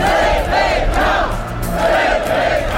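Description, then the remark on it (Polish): A large marching crowd chants various slogans in unison as it heads toward Nowy Świat street, loud rhythmic bursts of many voices rising and falling over a constant low rumble of footsteps and murmur. “Następnie tłum, skandując różne hasła, skierował się w stronę ulicy Nowy Świat.”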